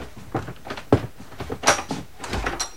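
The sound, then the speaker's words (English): An unlocked door being opened as a visitor enters: a quick series of latch clicks, rattles and wooden thumps, with a sharper knock partway through and a soft swish near the end, no voices. “Come in. Is that you, PJ? The door's unlocked.”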